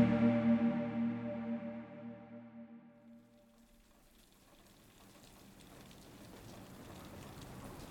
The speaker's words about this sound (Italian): Piove a Milano, ma questa cosa nuova non è.